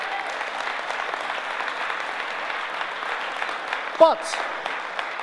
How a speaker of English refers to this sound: So would you just give God a round of applause for what he's doing in this place?